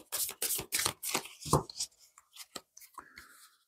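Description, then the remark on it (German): Tarot cards being shuffled: a run of quick, papery riffling bursts that thin out into a few softer taps and slides as the deck settles. “So, nochmal gut mischen, spirituelle Abkürzung.”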